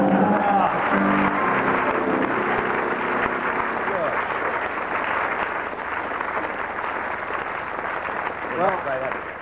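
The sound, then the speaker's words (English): Loud, sustained audience applause in response to a joke fills the whole stretch as a dense, steady crackle of clapping, with spontaneous laughter and voices mixed in at first and a brief vocal whoop near the end. “the audience broke into spontaneous laughter and prolonged applause.”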